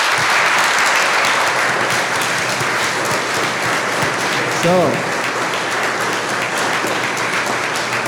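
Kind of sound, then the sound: crowd, audience applause and clapping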